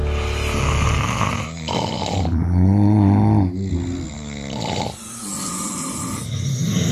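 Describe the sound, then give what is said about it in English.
A sleeping person in Cape Town snores loudly at night, recorded by their partner, with several long, rough, rattling snores in a row, each a drawn-out growling breath, and no talking. “So we asked Cape Townians to record their snoring partners at night and send us the evidence.”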